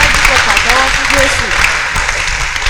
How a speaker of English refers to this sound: You want to clap for Jesus? Clap for Jesus. Go ahead and clap for me.